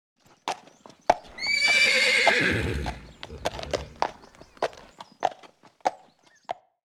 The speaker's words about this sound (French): I can hear a pony.